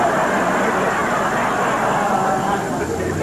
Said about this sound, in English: What's that I hear? Why, it's a truck. Backing up to repossess your steam table.